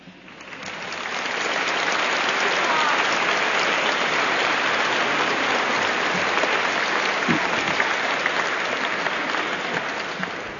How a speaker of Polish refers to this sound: Ja tylko dodam, że orkiestra jeszcze głośniej i piękniej gra, jak myśmy klaskali.